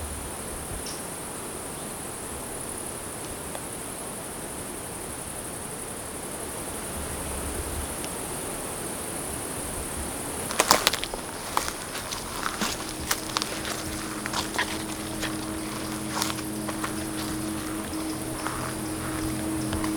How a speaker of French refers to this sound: Une clairière entre le chant des insectes et les derniers sifflements d'oiseaux.